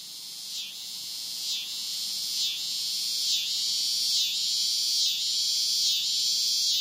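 A loud, continuous high-pitched buzz of cicadas singing at summer's end, pulsing in regular swells about once a second, dense with no other sounds.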